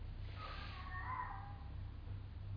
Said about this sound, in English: I'm pretty sure it's a cat.